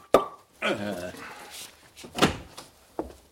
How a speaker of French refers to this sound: Je passe devant la porte de votre chambre et qu'est-ce que j'entends? Qu'est-ce que vous entendez? Le bruit d'une bouteille qu'on débouche.